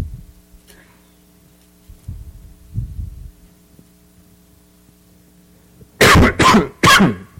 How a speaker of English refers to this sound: You'll have to excuse me. I've been battling a cold, and it's just if I cough throughout the sermon, and my voice is still not normal.